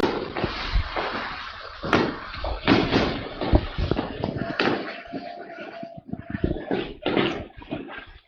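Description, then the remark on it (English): Rapid, irregular bangs and pops of New Year fireworks going off outside a house, some sharp, others muffled, over a steady background rumble with faint voices of people hollering. “Is that real fireworks, or are you banging on a garbage can?”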